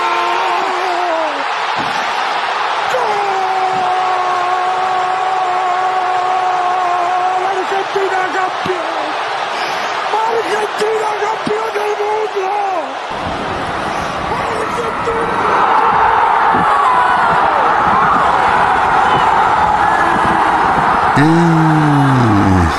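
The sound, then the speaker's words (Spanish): A loud crowd roars and cheers in celebration of Montiel's football goal for the Argentina national team, with sustained horn-like tones blaring over the din; the noise stays dense throughout and swells even louder partway through. “El 18 de diciembre los gritos adornaron la gloria de la selección en cada rincón del país y se escucharon en el mundo entero.”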